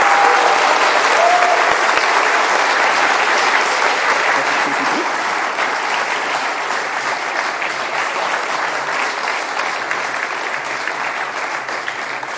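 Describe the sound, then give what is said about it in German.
An audience at a church service applauds steadily, a dense wash of many hands clapping that holds for the full stretch, loud and even, easing only slightly toward the end. “So, liebe Gemeinde, einen großen Applaus.”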